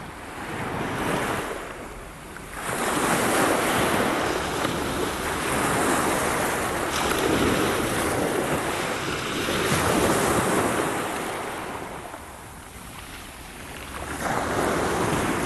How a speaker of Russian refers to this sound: Свет луны ночами тонок, берег светил по ночам, море тихо, как котенок, все скребется о причал.